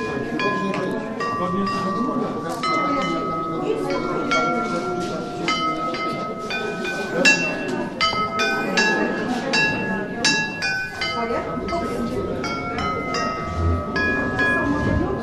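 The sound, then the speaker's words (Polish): Metal pipe chimes, each pipe hung isolated on a thin line, are struck with a different hammer and ring out in a quick, irregular series of bright, very high, sustained tones that overlap and linger, over a murmur of background sound. “A i teraz spróbujmy na tych. To jest innym trochę młotkiem.”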